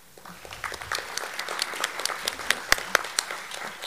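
Steady audience applause at a candidate forum for the candidates for Estill County Clerk, a dense patter of many hands clapping with a few sharper, louder claps standing out near the end, sustained for several seconds without any talking.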